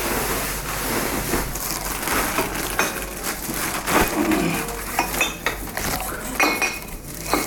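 Ten glass bottles clink and knock together repeatedly as a scrap collector in India gathers them up from people's homes, a busy, irregular clatter of bright chinks, with no voices.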